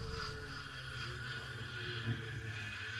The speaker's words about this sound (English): Noise of the engine must have attracted them.